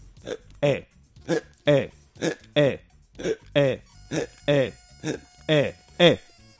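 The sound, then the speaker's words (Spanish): A person imitates hiccups with their voice, making about a dozen short, voiced hic sounds in a steady rhythm roughly every half second, fairly loud, with no talking. “Pongamos la situación, tú tienes hipo, ¿vale? Haz como que tienes hipo. Hazlo.”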